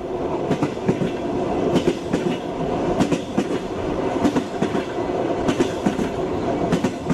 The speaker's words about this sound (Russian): Это и взрослые поездки с бесконечными разговорами со случайными попутчиками под стук колес по душам. И даже вот сейчас услышишь этот стук, и сердце заходится тревожным и совершенно счастливым ритмом.